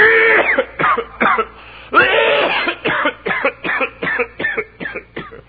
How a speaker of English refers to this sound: And so they started, and I got to coughing.